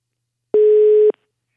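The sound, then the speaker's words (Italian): A single steady telephone line tone sounds for about half a second as an outgoing phone call is placed, loud, starting and stopping with faint clicks, with silence around it and no voices. “È partita una telefonata.”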